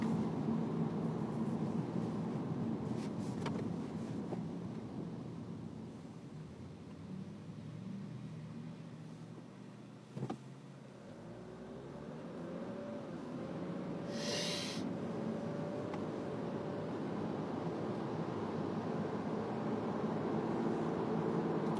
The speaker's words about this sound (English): It is raining. It has rained all weekend.